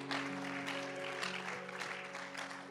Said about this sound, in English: Why don't we clap our hands unto the Lord this evening if you're glad to be here tonight.